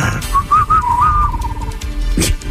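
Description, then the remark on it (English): A person whistles a short, wavering tone that warbles up and down, mimicking a bubbly underwater whistle, over a low background rumble, followed by a brief soft thump near the end. “Little bubble whistle.”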